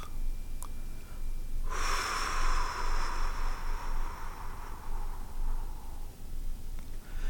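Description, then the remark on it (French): A single long, deep, breathy exhalation through the mouth, emptying the lungs fully during a breathing exercise, starting abruptly and trailing off slowly over about four seconds, with no speech. “Inspirez et commencez par vider totalement vos poumons sur une longue et profonde expiration avec la bouche, en allant le plus loin possible dans votre expulsion de l'air.”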